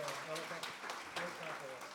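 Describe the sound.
Steady audience applause, a dense crackle of many hands clapping with sharp bursts throughout, while a voice speaks underneath.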